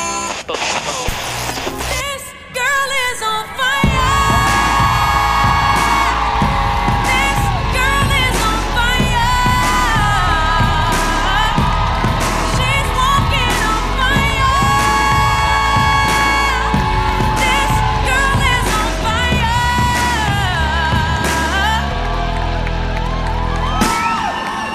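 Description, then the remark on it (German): A large crowd at Lollapalooza Festival cheers, shouts and whoops in a loud, continuous roar that swells after a brief quieter opening and keeps going for over twenty seconds. “Lollapalooza Festival, was geht ab?”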